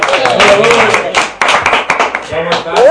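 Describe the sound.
A burst of applause, dense steady clapping that carries on for about three seconds, with excited voices and whoops mixed in over the hands.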